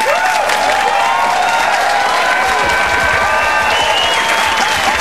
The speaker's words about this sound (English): So without further ado, let's give a traditional Pokai welcome, a big round of applause for our honored guest, Mr. Terry Bradshaw.